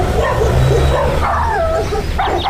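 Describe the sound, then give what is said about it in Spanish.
Several neighbours' dogs bark and yip in a steady, overlapping chorus, fairly loud, with a constant low hum running underneath throughout. “Que los perros de tus vecinos se pongan a ladrar todas las tardes no suena nada bien.”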